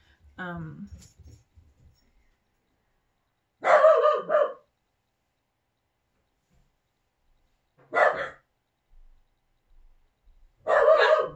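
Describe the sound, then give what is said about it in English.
Dogs give an emergency security bark at someone, sharp, loud bursts in three main volleys spaced a few seconds apart with quiet gaps between, sounding urgent and alarmed. “My dogs are barking at someone. And that's their emergency bark, like security bark.”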